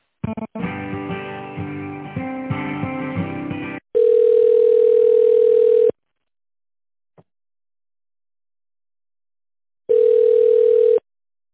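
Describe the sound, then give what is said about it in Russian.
A few seconds of tinny hold music, then a steady telephone dial tone buzzes for about two seconds while a phone call is being transferred, a click and silence follow, and the tone returns briefly. No one speaks. “А давайте сейчас телефоном... попробую переключить”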